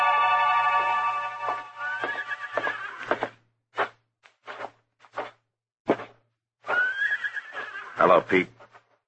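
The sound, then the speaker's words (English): A horse whinnies loudly in a stable, a long shrill neigh followed by short thuds and stamps, then a second drawn-out whinny near the end, with a low steady hum beneath. “Where did you leave your horses, Jesse?”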